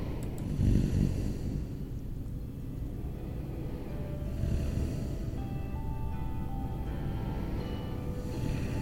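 A person snores steadily, each deep, rumbling inhale swelling every few seconds over a continuous low drone, fairly close and moderately loud, with no talking.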